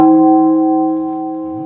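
One clock chime rings out clearly and hangs in the air, its bright metallic tone holding steady and fading only slightly over a couple of seconds, with no voices.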